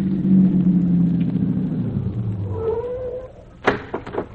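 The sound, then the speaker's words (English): A low, steady car engine rumble winds down and fades as the vehicle stops, followed by a brief high squeal and a few sharp clunks at the end. No one speaks. “Azim, stop the car.”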